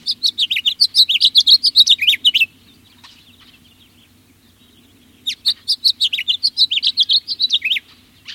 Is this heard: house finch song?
yes